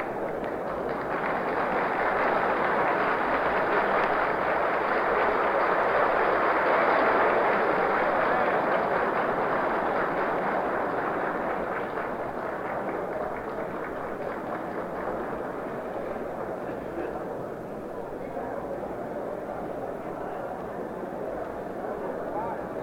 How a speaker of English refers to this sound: The burst of applause which you just heard was for the single woman member of the Senate, Mrs. Hattie Carraway of Arkansas.